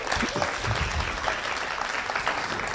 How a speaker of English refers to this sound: So give yourselves a hand if you would, please.